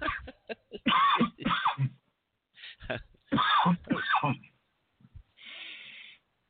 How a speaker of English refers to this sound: That reminds me. I need a cigarette. God. Well, if you smoke one, maybe I'll stop coughing.